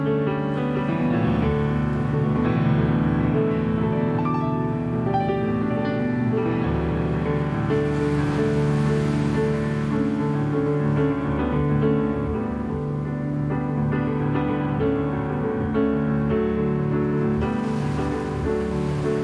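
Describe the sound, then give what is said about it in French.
Ocean waves surge and wash back in a steady, continuous hiss beneath gentle piano chords that ring throughout, with no voices. “Au piano, avec le ressac des vagues derrière.”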